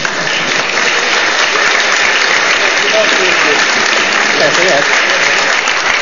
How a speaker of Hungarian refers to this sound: Köszönöm szépen a sok tapsot.